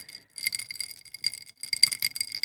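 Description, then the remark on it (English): Ice cubes clink and rattle in a glass of an alcohol-free Campari-type drink from Lidl, in two quick shaking bursts, bright, with a brief pause between them and no voices. “Does alcohol-free mean you have to just put more ice cubes in it? Give it a little jingle jangle again.”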